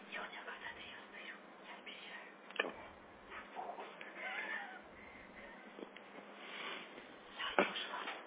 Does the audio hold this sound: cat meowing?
yes